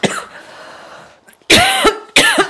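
Two loud, harsh coughs in quick succession after a faint, breathy lead-in, from a person who has choked on water.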